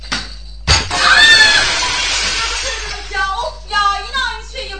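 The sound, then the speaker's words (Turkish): A sudden loud crash of window glass shattering after a kicked ball hits it, its bright broken clatter lingering for a second or two, then excited voices shouting in reaction. “Cam kırıldı.”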